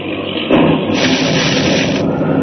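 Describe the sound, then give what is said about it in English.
A bolt of lightning strikes a seaplane, smashing it to pieces on fire: a sudden burst of harsh, crackling noise that swells and holds steady as a loud, hissing roar for about two seconds, with no voices. “Great heavens, lightning! Bolt of lightning struck down and smashed to pieces on fire.”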